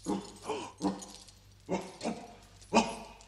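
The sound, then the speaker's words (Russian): A dog that has just woken up and is climbing out of its doghouse gives a series of short barks and yips mixed with whining whimpers, irregularly spaced over a few seconds, moderately loud, with no talking. “Проклятый пес проснулся и вылезает из домика.”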